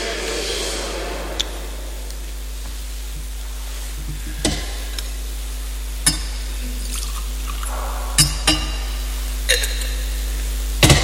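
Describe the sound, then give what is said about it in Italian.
Water is poured into wine in a brief, soft trickle, followed by a few sparse drips and light clinks of vessels over a steady low hum. No one speaks. “L'acqua unita vino sia segno della nostra unione con la vita divina.”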